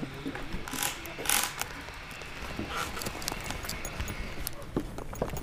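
Several sharp metallic clicks and rattles of double security door locks being unlocked, fairly quiet, spaced irregularly over a few seconds with faint shuffling in between.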